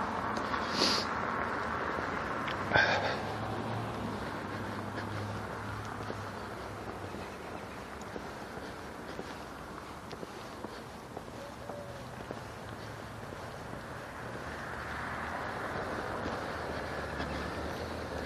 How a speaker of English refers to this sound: I'm at the troublesome chop sign, the trickiest intersection of the walk, and of course there's a car, but he was well back before I started across the street, so I trusted that he would stop, and he did, so I didn't get hit.